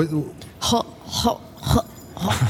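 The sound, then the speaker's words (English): A voice imitates a cat hacking up a hairball: four harsh, throaty retching bursts in a rough rhythm, fairly loud, with short pauses between heaves. “The snake with the hairball or the cat with the hairball?”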